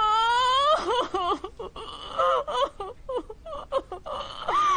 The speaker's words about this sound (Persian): آها پس قضیه اینه، نباید اینجوری گریه کنه. چرا اینقدر داره گریه میکنه؟ وای خدا، طوری داره گریه میکنه که مردم فکر میکنن کسی مرده. این خیلی بده.